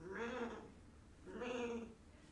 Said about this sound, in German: Wie heißen die? Schafe. Schafe, genau. Schafe. Schafe. Ganz viele große Schafe und zwei kleine Lämmer, ne? Zwei kleine Lämmchen.